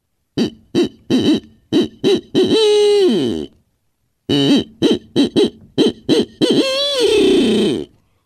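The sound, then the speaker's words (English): A barred owl's eight-note hoot, the 'who cooks for you' call, made by a person huffing into a hand call: two loud phrases, each a quick run of short hoots ending in a long, wavering, descending note, with no talking. “I would typically start off with that 8-note hoot that a barred owl would make.”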